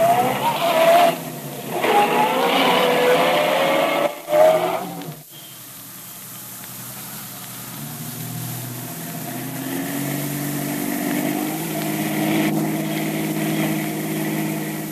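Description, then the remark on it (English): A taxi cab's engine drives through heavy traffic while following another cab, opening with a rising whine and brief tire squeal, then settling into a steady low rumble that grows slightly louder, with no voices. “Traffic's pretty thick, Mr. Tracy. Well, don't lose that cab, whatever you do.”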